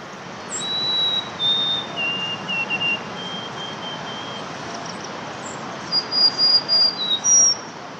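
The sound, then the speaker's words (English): A sparrow in Central Park, New York City, sings a mimicked song of thin, high whistled notes, first a few drawn-out tones, then a quick run of short chirps, against steady outdoor background noise with no talking. “For the next few weeks, I'll visit the park and listen for this polyglot, who looks just like all the other sparrows, until he opens his beak and reveals his secret.”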